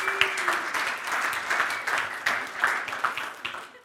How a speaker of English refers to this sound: So I hope you're not applauding to me, that's for sure.